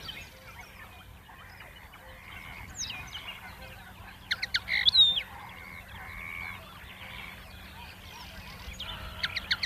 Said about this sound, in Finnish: Kutsuääni kuuluu lyhyinä sarjoina myös hempon laulussa, jossa toistuvat lyhyistä säkeistä koostuvat vihellykset, viserrykset ja karkeammat äänet. Usein hemppo esittää laulunsa matalassa puussa tai pensaassa.